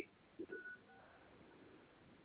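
A couple of quick telephone keypad tones beep in succession over a thin, hissy phone line as digits are entered at an automated phone prompt, then the line carries only faint background noise.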